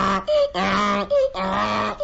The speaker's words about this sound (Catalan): Però que no sents que és un ase. Un ase? Vols dir que és un ase? Me catxo amb l'ase i la mala estona que m'ha fet passar.